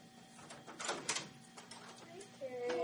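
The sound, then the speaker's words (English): A door is opened with a short burst of clunks and rattling scrapes, followed by quieter shuffling, over a steady low background hum. “I got the door.”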